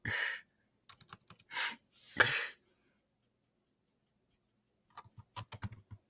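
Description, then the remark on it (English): Quick bursts of typing on a computer keyboard, fairly crisp, come in two flurries of clicking keystrokes separated by a couple of seconds of silence, with no voices. “He's typing. Uh-oh. He's typing.”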